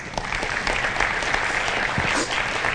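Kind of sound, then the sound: crowd, audience hand clapping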